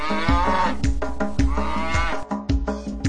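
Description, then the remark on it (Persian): A cow moos repeatedly in quick succession, loud, with drawn-out, wavering lows set against a steady, rhythmic musical backing, as part of a Persian children's counting song for the number eight. “هشت و گاوه نازنازی مو مو مو میخونن.”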